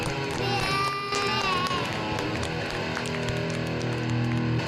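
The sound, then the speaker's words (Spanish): A loud crowd applauding, with dense, steady clapping mixed with cheering, shouts and whoops throughout, all blending into one continuous roar. “¿No vienen los aplausos?”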